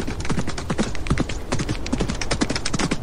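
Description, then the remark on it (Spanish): A horse's hooves clip-clop in a steady, brisk rhythm as its rider heads toward a neighbouring village, each hoof strike a sharp knock repeating throughout at an even volume, with no talking. “Al cabo de las horas y después de haber visitado a todos sus paisanos, el médico cogió su caballo y se dirigió hacia el pueblo vecino.”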